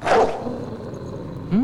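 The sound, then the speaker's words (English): A large dog growls in the backyard of a Chinese restaurant: a loud snarling burst opens, a low rumble lingers underneath, and another short rising growl comes at the end. No one speaks. “A large dog growls.”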